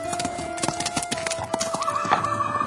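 Horse hooves clip-clop in a steady, uneven patter while a horse's drawn-out neigh rises over the hoofbeats, as Alexei rides to Muromsky's and stops his horse before the porch of the Priluchino manor. No one speaks.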